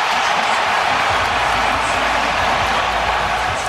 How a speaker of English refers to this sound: Oh, great. The crowd. That sounds really so good.